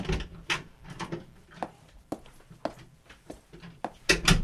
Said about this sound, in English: Your father goes out the door, and you're alone.